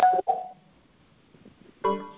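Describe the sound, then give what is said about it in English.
Two quick, fairly loud phone keypad beeps in close succession as star six is pressed to mute on a conference call, followed after a short quiet pause by another brighter electronic tone near the end. “I'm going to ask you to check your phone and hit *6.”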